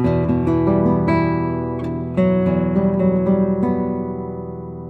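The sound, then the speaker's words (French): An E minor chord on guitar, the opening of a Villa-Lobos prelude, its notes plucked in a steady rolling pattern and left ringing together, holding at a fairly even volume throughout with no voices. “Le début de ce prélude est en mi mineur, écoutez la couleur de l'accord.”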